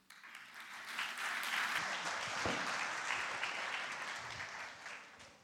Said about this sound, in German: Jetzt geht's los. Es wurde viel geübt und alle Akteure sind ganz gespannt und ja, Bühne frei und Applaus.